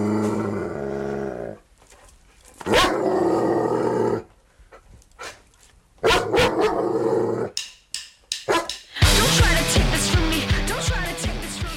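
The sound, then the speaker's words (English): A dog, billed as Kerrang's Rock Dog, barks and growls in loud bursts separated by brief pauses, ending in a dense, noisy rush of sound. No one speaks. “He's the Kerrang canine, the mongrel with the music, the hound with the best sound, the mutt who kicks butt.”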